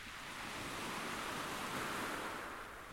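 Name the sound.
sea waves and surf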